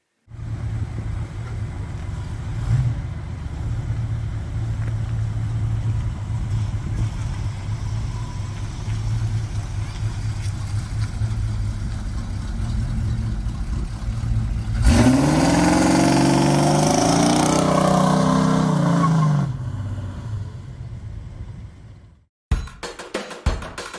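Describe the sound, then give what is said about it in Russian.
A rare car's 3-litre, 142-horsepower engine idles with a steady low rumble, then revs hard for several seconds, rising to a loud roar before dropping away, with no talking. “Двигатель 3 литра, 142 лошадиные силы. Сегодня это редкая машина.”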